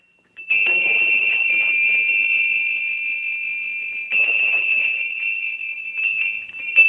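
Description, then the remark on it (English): A matching factory set of harp bells rings loud in one continuous bright, metallic trill, one bell pitched higher than the other, with fresh bursts of ringing about two-thirds of the way through and again near the end. “So that's a very shy harp bell. So here's the matching set that came out of the factory”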